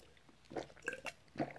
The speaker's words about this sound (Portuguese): Deixa eu beber uma água aqui que eu tô seca.